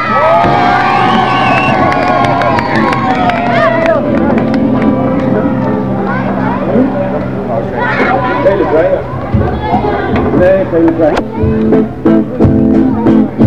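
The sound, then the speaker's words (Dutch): A young crowd of Amsterdam youth claps and cheers loudly for themselves after a vote result is announced, with high-pitched shouts and whoops over a steady rattle of applause that carries on throughout, growing more scattered toward the end. “Een applausje voor jullie zelf.”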